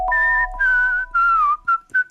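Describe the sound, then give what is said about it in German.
A bright whistled melody from a pop song, five clear phrases of sustained and gliding notes over a low steady backing tone, fairly loud. “Ein neuer Hit zum Mitpfeifen von ….”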